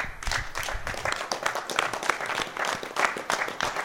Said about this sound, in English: So why are you clapping for those people? Well, that guy and his wife, they own the company that makes our playfields and our cabinets.